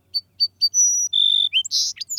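A song sparrow sings: three crisp introductory notes, then a sustained buzzy trill and a jumbled, sputtering finish, clear and loud with no talking.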